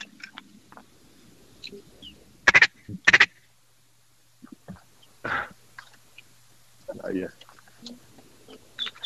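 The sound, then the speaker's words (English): Ducks quack outdoors at dawn on a small freshwater marsh pond during a duck hunt: two short, loud bursts close together, then a few softer, scattered quacks, with low murmured voices in between. “Yeah, we got a little influx of birds in.”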